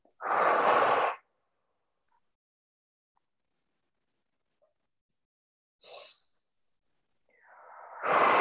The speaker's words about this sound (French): De manière à ce que vous puissiez commencer à respirer tout à travers votre canal, de la tête aux pieds. Vous allez vraiment engager une respiration assez forte de la tête aux pieds.